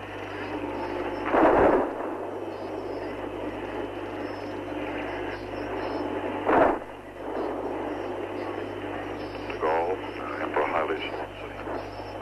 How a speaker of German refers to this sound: jetzt, falls Sie es hören können in der Entferne, wird der Salut für Präsident Kennedy geschossen. 21 Böllerschüsse.